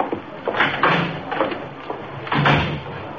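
A side door is opened and shut, a series of clunks and rattles spread over a few seconds, ending with a firmer thud as it closes.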